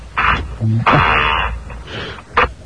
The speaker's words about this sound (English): Was that a... That was a fart. A yeah. fart sound?